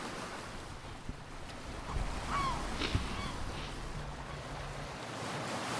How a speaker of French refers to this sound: Elle est juste à bord de la mer et elle reçoit de l'eau, elle voit les vagues, elle fait l'impression d'une muette que veut sortir pour quitter la terre.